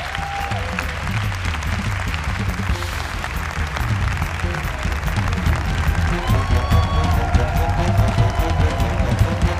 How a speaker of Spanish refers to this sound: un aplauso para Pino y los cómicos